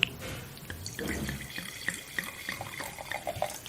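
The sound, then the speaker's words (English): Wine from a screw-cap bottle pouring into a glass: a steady, splashy trickle with a run of quick glugging bubbles throughout, moderately loud, with no voices over it. “Sorry, I'm a bit heavy on the pour today.”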